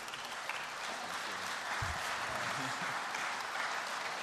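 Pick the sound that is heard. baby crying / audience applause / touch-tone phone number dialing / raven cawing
audience applause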